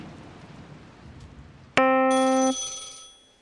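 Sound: telephone ringing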